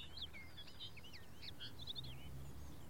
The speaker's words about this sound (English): But the birds are still singing.